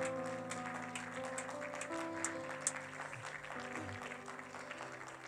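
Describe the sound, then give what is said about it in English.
A crowd claps steadily together in praise of the Lord, a dense wash of hand claps with sustained organ or keyboard chords ringing underneath, moderately loud. “Why don't you give the Lord a hand clap of praise?”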